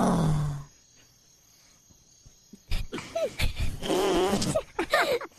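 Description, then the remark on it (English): Faint, steady cricket chirping fills a quiet lull, after a brief burst of low noise at the start; then a voice takes over with expressive, warbling vocal sounds and no clear words. “You hear the crickets?”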